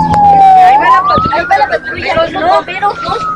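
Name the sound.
police car siren passing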